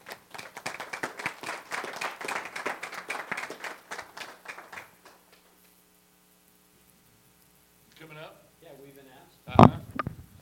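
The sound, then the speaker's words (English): An audience applauds steadily for about five seconds as people come up to share testimonials at a Legal Shield business presentation, then the clapping stops, leaving a low electrical hum before a voice starts speaking and a sharp thump sounds. “Give them a nice round of applause.”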